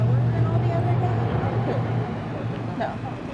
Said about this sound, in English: it was here where two more monster trucks came in from the garage and just filled the entire Georgia Dome with this massive, booming sound of monster truck. It was amazing. It cut off the interview